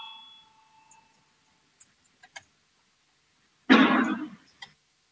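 A bell's ringing tone fades out over the first couple of seconds, followed by a few sharp clicks and a short burst that sounds like someone coughing. The bell is rung to call a vote on proposal 14, from Transport Minister Linkaits, on transitional provisions of a law. No one speaks.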